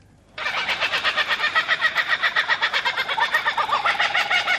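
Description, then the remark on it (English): A kookaburra's raucous laughing call bursts in loud, a rapid, rhythmic chain of cackling hoots that rises and rolls on without pause, with no voices alongside. “Its laughing call can be heard across much of the country.”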